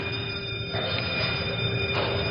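A steady warning bell at a cyclotron rings continuously before the beam and high voltage are turned on, a sustained metallic tone holding at an even level over a dense, noisy rumble for the whole stretch, with no pauses and no talking.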